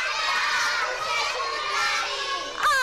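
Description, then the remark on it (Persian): A group of children loudly shout together in unison "we love you" in Persian, their many voices blending into one sustained, bright chorus for a few seconds. “بلند بگین بچه‌ها دوستتون داریم.”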